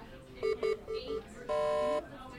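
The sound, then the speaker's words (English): Hospital monitor beeping: two short mid-pitched electronic beeps, two softer ones, then a longer, buzzier sustained tone, all over a faint murmur of background noise. “The beeping of monitors has become the ever-present audio wallpaper of hospital units.”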